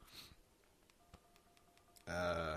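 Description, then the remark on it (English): Faint electronic beeps and short tones sound quietly at first, then a louder, bright chiming phone alert for an incoming message bursts in near the end, clear with no talking. “Yeah, my phone is, hold on, sorry, I got a message, leave me alone.”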